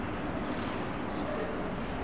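A steady hum of road traffic, cars and trucks blending into a continuous low rumble with no distinct passes, fairly quiet throughout.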